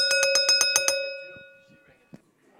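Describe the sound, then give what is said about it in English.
A bright new bell rings in a quick run of about seven strikes, then its tone hangs and fades over the next second, followed by faint background noise and a soft thump. “Could you hear that? I told you there's going to get a new bell.”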